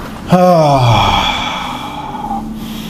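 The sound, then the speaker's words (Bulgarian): A deep breath during a guided breathing exercise, released as a long, voiced sigh that falls in pitch, fairly loud, then trails off into quiet breathy air. No one speaks. “Дишай, дишай пак. Още веднъж вдишай, дишай.”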